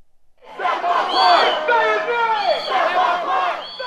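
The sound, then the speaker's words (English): A protest crowd in California shouts loudly after prosecutors decided on the police shooting of Stephon Clark, many voices overlapping in sustained, raised cries that swell and dip without pause after a brief quiet start. “The sound of protests erupting after the prosecutor's decisions.”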